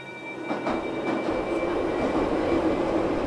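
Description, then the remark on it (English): A metro train rumbles steadily along the rails, a continuous roar with a faint high whine and brief clatters of the wheels early on, no voices present. “I remember once I was riding the metro.”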